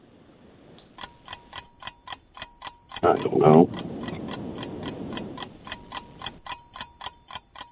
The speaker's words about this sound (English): Oh, there's the timer.